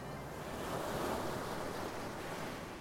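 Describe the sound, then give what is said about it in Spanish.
Sea waves wash steadily at a harbour in a broad, continuous rush of surf, swelling slightly in the middle, with a low wind rumble underneath and no voices. “Respira el aire salado que le llega del mar y se imagina a sí misma en un barco, viajando a otra parte, lejos, lejos, pasando el mar Mediterráneo y...”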